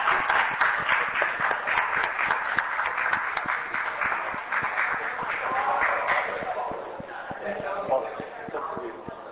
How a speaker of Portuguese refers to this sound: Ora bem, senhores deputados, muito obrigado pelas vossas simpáticas palmas.